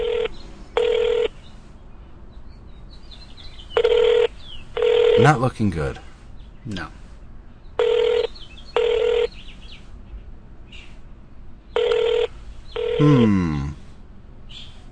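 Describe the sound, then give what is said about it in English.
A telephone ringback tone from a call placed to a work phone number in New Hampshire repeats in paired bursts, about four cycles of two short electronic rings each, fairly loud and steady, with people talking briefly between the rings. “That's a weird ringing sound.”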